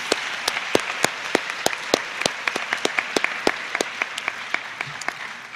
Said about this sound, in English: All right, so let's just give him one final round of applause.